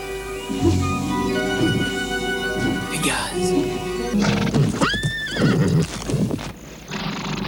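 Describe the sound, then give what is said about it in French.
A horse whinnies loudly with rising, wavering neighs while hooves clop and shuffle nearby, a brief voice heard under the sounds. “Quand la pleine lune brille sur les eaux, on dit que Pégase, le dernier des chevaux ailés, vient s'y désaltérer.”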